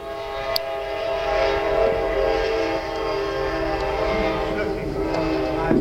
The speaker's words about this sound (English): I love that whistle. That's my whistle to say time's up. That train is the hour.